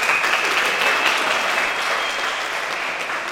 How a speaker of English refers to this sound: So give yourselves a clap for that one. Well done.